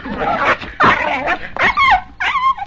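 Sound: dog yelping and whimpering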